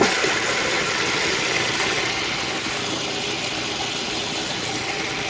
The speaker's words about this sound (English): Okay, so there's 2.5 cups of oatmeal in the hopper, if that's what that thing's called. I'll put the lid on the food processor and I'm gonna turn it on.